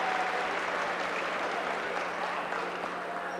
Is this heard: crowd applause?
yes